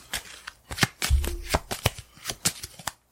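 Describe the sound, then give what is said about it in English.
Cards being shuffled: a rapid series of crisp, papery riffles and snaps lasting a few seconds, with a brief soft thump partway through and no talking. “Alright, so I'm going to shuffle these up.”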